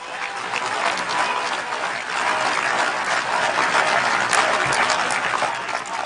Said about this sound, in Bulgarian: Чуваме там едни свиркачи, които се опитват да узурпират властта.